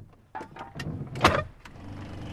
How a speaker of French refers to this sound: Il sillonne le quartier dans sa voiturette de golf qu'il a transformée en camion de pompier de fortune.